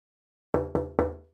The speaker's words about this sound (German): Keine Reaktion. Ich klopfe nochmal.